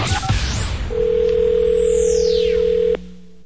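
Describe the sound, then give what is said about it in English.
A steady telephone dial tone hums for about two seconds and then cuts off abruptly, while a bright swooshing sweep arcs over it, opening a Mojo in the Morning phone scam. Nobody speaks. “now, another world famous Mojo in the Morning phone scam.”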